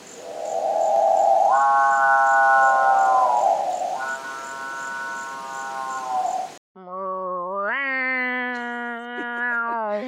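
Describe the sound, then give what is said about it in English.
A bird gives loud, drawn-out cat-like wailing calls, rich and tonal, with sudden step-like jumps and drops in pitch. Two long calls separated by a brief break, with no voices. “Like a cat, but also something falling. Yeah, that was one crazy bird.”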